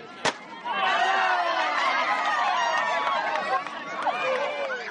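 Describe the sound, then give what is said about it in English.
A large stadium crowd in Cranston murmurs and chatters continuously at the end of the opening ceremonies of the AYF Olympics, many voices blending into a steady, lively hubbub, with a single sharp knock near the start. “At the end of opening ceremonies, the legends of past AYF Olympics are introduced to the still buzzing Cranston crowd.”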